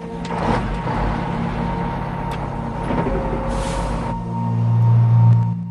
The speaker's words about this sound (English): He reacts as the coach engine fires up.